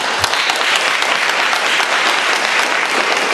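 A crowd applauds one another steadily, a dense, even wash of many hands clapping at a sustained loud level with no voices standing out.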